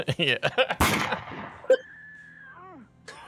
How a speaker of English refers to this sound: Yeah. More cartoon footage. Gunshot stuff. Oh, did he get him? I think he shot him.